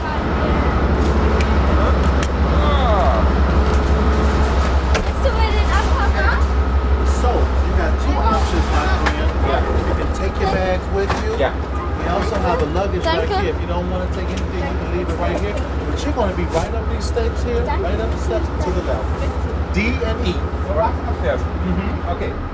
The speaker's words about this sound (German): Diese Dieselloks sind wahnsinnig laut, gerade in diesem unterirdischen Bahnhof von Chicago.